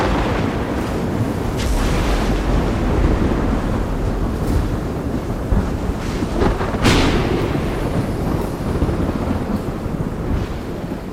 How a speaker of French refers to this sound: Et avec toute cette évaporation, l'atmosphère est balayée par les orages, les tempêtes, les cyclones, et la surface de notre jeune océan est continuellement frappée par les éclairs.